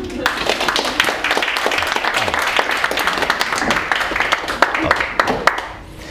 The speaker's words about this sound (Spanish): Ah, por favor. ¿Aplausos?